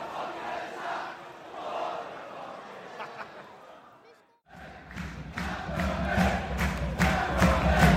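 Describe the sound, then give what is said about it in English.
A large football crowd chants and roars in the second half of a match involving Swindon, dipping briefly before surging back louder and fuller, with sharp bursts of clapping or shouts punctuating the sustained wall of voices. “Belatedly, the crowd... getting up for it.”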